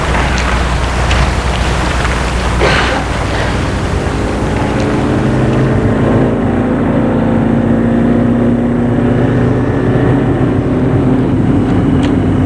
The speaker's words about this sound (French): Ils entrent dans le taxi. Ils disent au chauffeur, ils veulent aller et le chauffeur met la voiture en route.